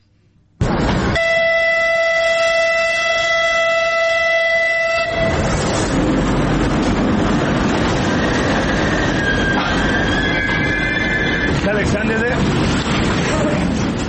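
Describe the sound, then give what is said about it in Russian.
A passenger train travelling from Kyiv to Mykolaiv, Ukraine, sounds a long, loud horn blast for several seconds, then keeps rolling past with a steady, heavy rumble and clatter of wheels on the rails. “А в Николаев сегодня впервые с 24 февраля отправился пассажирский поезд из Киева.”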